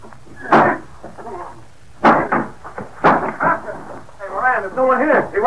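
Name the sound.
door being broken down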